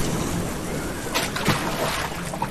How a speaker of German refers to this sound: Du bringst mit deiner Arschbombe ja fast das Boot zum Kentern. Wenn ich's nicht besser wüsste, hätte ich gesagt, statt dir ist ein kleiner Floh ins Wasser gehüpft.